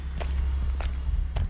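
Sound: footsteps walking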